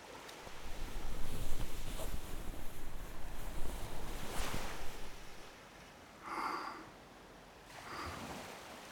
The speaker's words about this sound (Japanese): この海の音っていいよね。目をつむるとよく聞こえる。